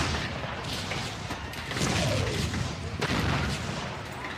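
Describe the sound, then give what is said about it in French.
Battlefield din of explosions and gunfire at the front in a war: a continuous dense roar punctuated by sharp cracks and heavy booms, loud, with no voices. “Le froid, la boue, les rats, le bruit, les explosions et la mort.”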